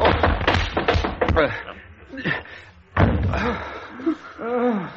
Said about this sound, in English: You killed him. What happened? You killed him. You smashed his head with the ashstand.